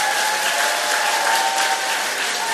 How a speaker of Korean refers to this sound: 자 우리 서순바 팀을 위해서도 박수로 환영.